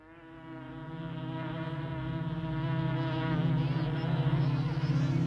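A dense, steady hum of many honeybees buzzing at a hive entrance, gathering on the landing board, layered drones swelling gradually louder with a faint wavering flutter, no voices.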